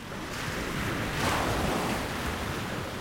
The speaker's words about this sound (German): Die Brandung hat das Treibholz aufgeschichtet zu Scheiterhaufen. Gischtfetzen schießen auf die Dünen zu, Salzwasserdunst verklebt die Brillengläser, Sand peitscht gegen die Haut